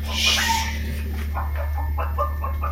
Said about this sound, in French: C'est un poulet?